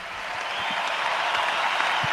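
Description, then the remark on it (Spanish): A large arena crowd at the Carpena applauds Rafa Nadal in a sustained ovation with the lights off, a dense, steady wash of clapping that holds loud and even throughout with no voices standing out. “Un fuerte aplauso para Rafa Nadal.”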